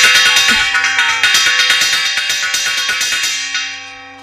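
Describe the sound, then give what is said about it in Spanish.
A clock tower carillon rings out loud, a rapid cascade of overlapping bell strikes with rich, sustained metallic tones that keep ringing after the strikes stop, sounding the quarters before the New Year's Eve midnight bell strikes. No one speaks. “Ese es el carillón.”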